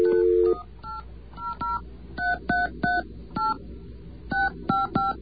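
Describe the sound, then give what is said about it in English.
Push-button phone dialing of the MTA Bridges and Tunnels Easy Pass Service Center's toll-free number: a brief steady tone, then a quick, uneven run of about a dozen short, bright beeps at varying pitches, one per key press, with no talking. “Now, there's a number you can call if you have a push-button phone, which we do.”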